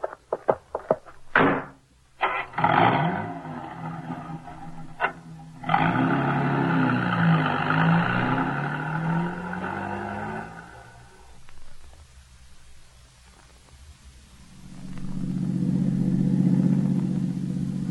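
A few sharp thumps like car doors, then an engine turns over and roars loudly before fading as it drives away; a second engine rumbles up near the end. No one speaks.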